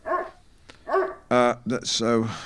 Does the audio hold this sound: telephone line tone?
no